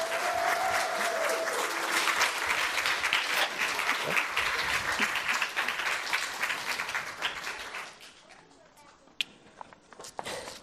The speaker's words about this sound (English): So let's give them a nice round of applause.